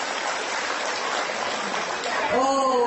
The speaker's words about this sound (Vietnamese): Xin cho một tràng pháo tay.